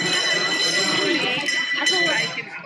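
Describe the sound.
A bell rings steadily throughout, its bright metallic tones sustained and fairly loud, with murmuring voices and background bustle underneath, fading slightly toward the end.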